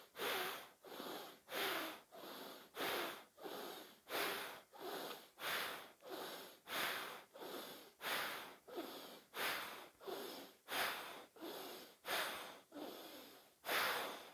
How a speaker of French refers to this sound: On va d'abord expirer par les deux narines. Puis fermez la narine droite et on expire fortement narine gauche.